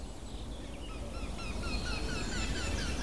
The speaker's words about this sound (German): Bisschen weiter weg die Amsel.